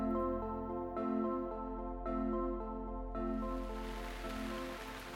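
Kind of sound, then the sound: nature, rain falling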